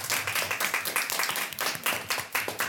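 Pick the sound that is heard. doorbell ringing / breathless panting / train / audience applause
audience applause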